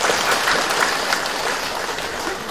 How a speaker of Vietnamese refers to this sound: Đó, bây giờ cho một tràng pháo tay.